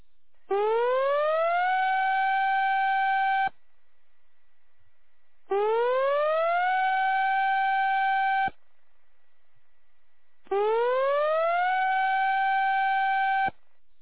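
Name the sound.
tsunami warning siren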